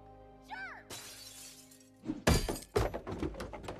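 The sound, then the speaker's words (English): A framed Professor X picture is knocked down and crashes, its glass shattering in a bright, spraying burst, followed by a loud heavy thud and a few scattered clattering knocks. “Just knocked down a Professor X picture.”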